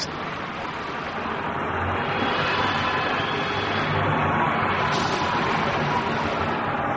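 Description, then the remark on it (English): A straddle crane lifting a shipping container: a steady, heavy engine drone with broad rumbling noise and faint high mechanical whines, holding an even loudness throughout. “There's the straddle crane for the container now.”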